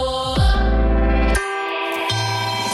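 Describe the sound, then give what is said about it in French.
The Europe 1 radio station's hourly chime (carillon) marking midnight: an electronic jingle opening with a quick falling swoop over a deep, loud bass, then shifting into sustained bright, ringing tones with no one speaking. “Carillon d'Europe 1, il est minuit.”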